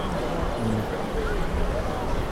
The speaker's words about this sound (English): I'll leave this one for a little bit longer just so you can hear the sort of fountain turning back into a washing machine or slow hand clap, whichever you think.